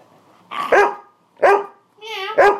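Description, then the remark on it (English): A dog barks three times, short loud yaps spaced about a second apart, the last one starting with a brief whiny, high-pitched lead-in. “You're such a silly dog.”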